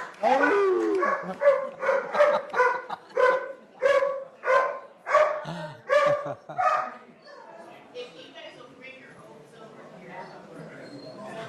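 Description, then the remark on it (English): Dogs bark loudly in a rapid, steady run of about a dozen barks over several seconds, then the barking fades into softer, scattered yips and whimpers. “Your first meeting with the dogs already.”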